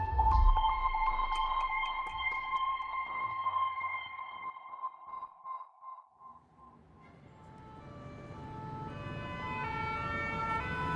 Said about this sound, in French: Octobre 1994, Paris. Sur la place de la Nation, les sirènes des pompiers répondent au pimpon des policiers. L'heure est grave. Une fusillade vient d'avoir lieu.